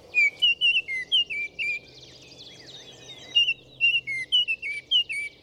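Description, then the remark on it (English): A bright orange Baltimore oriole sings a rich series of clear, whistled notes in two rhythmic phrases, fairly loud, with softer chirps from other birds in the background. “Biologists believe this bright orange Baltimore oriole descended from a South American ancestor that began migrating north in search of new breeding habitats.”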